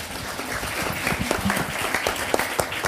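An audience applauds steadily for about three seconds, a dense wash of many hands clapping at once with a few sharper claps standing out, no voices heard.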